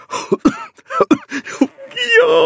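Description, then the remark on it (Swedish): A voice fakes a string of short, forced coughs in quick, uneven succession, fairly loud, ending in a drawn-out throaty vocal sound. “Jag blev hysteriskt glad, men lyckades dölja det för Åke genom att låtsas hosta.”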